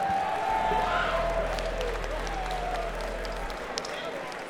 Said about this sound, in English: Let's give them a really nice round of applause for having us all here for such a great time.